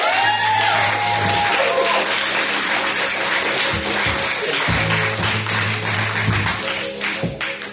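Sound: audience clapping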